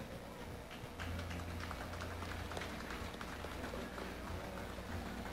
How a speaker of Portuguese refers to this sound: com carinho e uma salva de palmas, chamamos o senhor Virgílio Matias da Rosa, secretário municipal de obras.